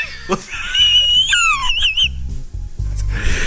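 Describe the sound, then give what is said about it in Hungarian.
A voice imitates a hen clucking, a run of high, squeaky, wavering cries over low choppy bursts, fairly loud for a few seconds. “Kotkodácsolni.”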